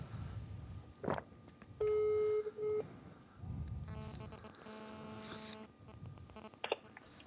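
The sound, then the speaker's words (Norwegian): A phone call placed around Norway rings out over a speakerphone: a steady electronic ring tone sounds once, followed by a burst of layered beeping tones, all slightly tinny against low background rumble, with no talking. “Jeg ringer rundt til alle i Norge. Er det på høytaler nå?”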